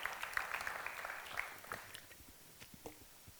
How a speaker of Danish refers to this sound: Ja, det må du godt klappe for, faktisk.